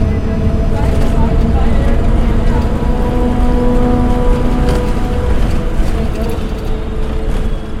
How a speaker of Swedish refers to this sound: På en annan plats i Pakistan, i sydöstra Punjab, så kommer en buss skumpande. En färgglad buss med blomster, gelanger och bjällror. Och längst bak i den bussen så har en passagerare skakats till sömns.